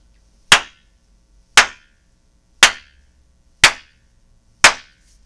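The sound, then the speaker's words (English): Five sharp hand claps at a steady pace, about one per second, each a bright, crisp burst that quickly fades, with silence between them and no talking. “I will clap my hands, then I'll snap my fingers, and then I'll hit a bucket.”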